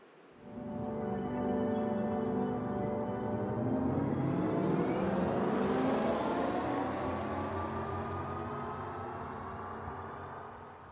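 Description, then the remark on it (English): A designed electric car driving sound, a potential sound based on sound genetics for electric cars: a layered, humming electronic drone whose tones slowly glide in pitch. It swells in after a moment and holds steady for about ten seconds, with no talking. “And now I would like to show you how a potential sound based on the sound genetics for electric cars could sound like.”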